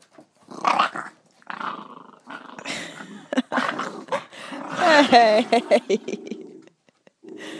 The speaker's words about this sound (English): Yeah, that's a common sound here. That's a mother dog giving the little one shit for something.